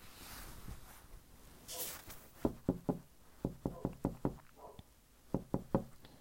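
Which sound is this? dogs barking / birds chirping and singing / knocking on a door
knocking on a door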